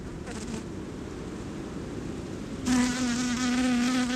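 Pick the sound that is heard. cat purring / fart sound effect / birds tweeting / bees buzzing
bees buzzing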